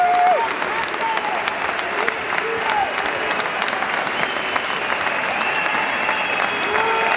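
Sustained, loud applause from a stadium crowd giving a standing ovation, dense clapping with occasional cheers and whistles rising above it.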